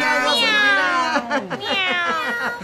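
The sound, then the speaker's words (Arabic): A loud cat meow, long and wavering in pitch, followed by a few shorter, choppy vocal bursts before the sound fades out. “مياو. نعم ألا ترى طوطة يلحق بك؟”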